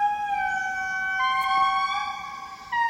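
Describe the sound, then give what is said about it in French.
An indri lemur of Madagascar sings a loud, wailing song: long sustained tones rich in harmonics that step down and up in pitch, sounding almost siren-like, with no talking over it, recorded in tropical slope forest on a low mountain in the dry season. “L'Indri de Madagascar, donc un lémurien, ce n'est pas un singe, hein, c'est une famille complètement à part et que l'on trouve en grande partie à Madagascar.”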